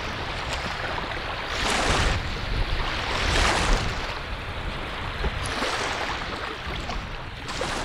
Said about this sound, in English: It's a bitter cold Thursday evening at the South Dam area of Lake Thunderbird, and as the darkness sets, the brown, murky waves surge toward the shoreline, retreat, and surge again.